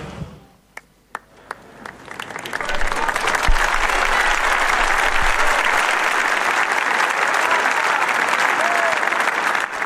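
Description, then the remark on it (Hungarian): A large crowd breaks into sustained applause after the Pope's blessing, greeting the Holy Father in farewell, starting with a few scattered claps that quickly swell into a dense, steady roar of clapping that holds loudly to the end. “Lassan visszaszokunk mi is ehhez a búcsúzáshoz, a tapshoz és a Szentatya köszöntéséhez.”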